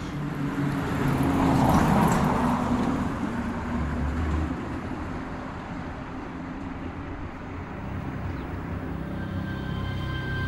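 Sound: traffic passing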